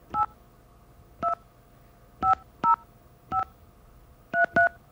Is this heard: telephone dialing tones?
yes